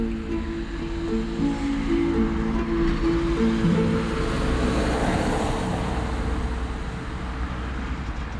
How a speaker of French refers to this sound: Là, je crois que c'est lui qui arrive en voiture.